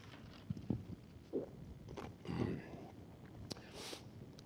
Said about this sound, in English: Let me get a sip of water. I'm getting dry.